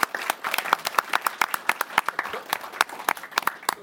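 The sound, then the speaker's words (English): A small audience applauds for a few seconds, with crisp, distinct hand claps overlapping in a brisk, uneven patter, steady throughout, with no one speaking. “So so let's please join me in another round of applause for him.”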